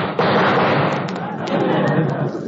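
A trick bar of soap, loaded by a prankster, explodes at bath time with a sudden loud burst, then keeps up a dense, roaring fizz and crackle punctuated by a few sharp pops.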